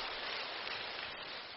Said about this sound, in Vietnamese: Đấy. Tự thưởng cho mình thì vỗ tay to thế. Bảo vỗ tay thưởng cho thầy ấy thì lẹt đẹt và 2-3 lần vẫn chưa nghe thấy cái gì. Bảo tự thưởng cho các cụ thì to thế.